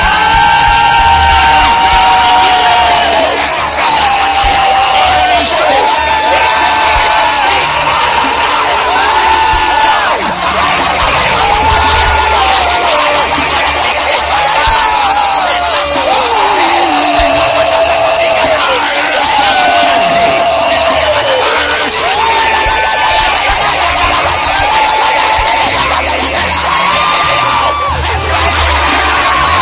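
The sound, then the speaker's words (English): A large church audience screams "I receive" together in the name of Jesus, a loud, sustained roar with many voices overlapping and rising in wavering shouts and whoops for about thirty seconds. “When I say the name of Jesus, 1, 2, 3, you scream, I receive, and place your hands on your head.”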